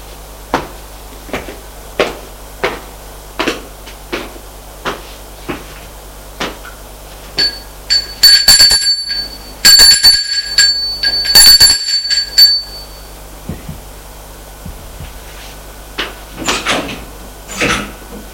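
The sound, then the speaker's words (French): Steady, evenly spaced footsteps lead up to the door of a notary's office on the first floor, where a doorbell rings in several bright, shrill bursts over a few seconds. A few more soft steps and thuds follow. “Arrivé au premier étage, ils vont sonner à la porte du notaire.”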